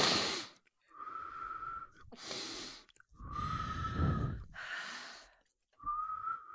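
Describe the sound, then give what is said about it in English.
A person imitates a nose whistle: airy breaths alternate with a thin, steady whistling tone, repeated about three times in a slow rhythm, with no talking. “He's terrific, and you're watching him on video, and you can hear that he has a pronounced and noticeable nose whistle.”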